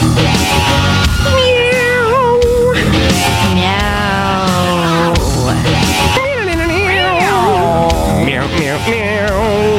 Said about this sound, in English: Our cats are shooting lasers at each other. Laser cats pew, pew, pew, pew.